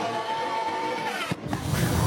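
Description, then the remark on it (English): A race car engine roars steadily, then briefly cuts out before a loud, deep, rumbling blast erupts as the supercharger (blower) explodes. Powerful, with no voices. “Dude, it's like a bomb exploding. Holy cow. Yeah. Yeah. The blower on that thing”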